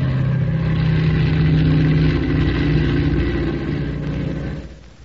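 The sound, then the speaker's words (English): A transport plane's engines roar in a loud, steady drone with low humming tones as it takes off with the wind, holding strong for several seconds before fading off at the end. No one speaks. “Boy, I never seen one of them transport planes take off like that before.”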